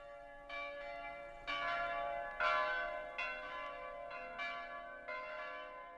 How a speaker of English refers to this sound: Then, the church bells begin to ring all over the city. It is Christmas Day at last.